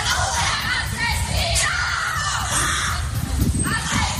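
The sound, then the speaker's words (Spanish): The family of a killed 37-year-old army corporal of the Regulares in Ceuta shout angrily at night against his killers, a loud, dense and continuous clamour of raised voices with sharp cries breaking through, unbroken for the whole stretch. “La familia de Dries, un cabo primero de 37 años de los regulares en Ceuta, gritaba anoche contra los asesinos del militar.”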